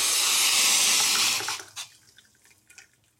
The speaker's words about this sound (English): It's hot water.